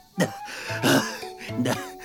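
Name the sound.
choking cough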